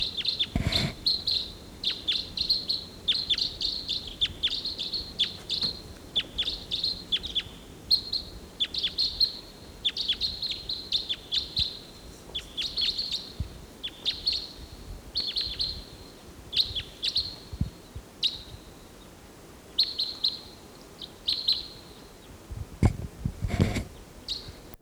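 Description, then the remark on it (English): A lone bird flying over calls repeatedly, giving short, high-pitched chirps in quick bursts that continue steadily for about twenty seconds. A couple of sharp knocks punctuate the calls, and no one speaks. “A lone bird flying over.”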